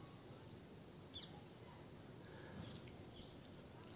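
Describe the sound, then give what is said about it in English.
Parrots call faintly at dusk as night descends at Giriraj hill in Vrindavan, a couple of short, high squawks breaking through a steady hiss of outdoor background noise. “And gradually night will descend and the parrots, oh, they've already begun.”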